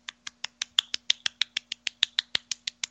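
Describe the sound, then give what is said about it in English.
Quiet, polite golf clapping: a steady run of about eighteen light, crisp claps at an even pace of roughly six per second, with no voices, over a faint low hum. “A typical enthusiastic golf clap goes something like this.”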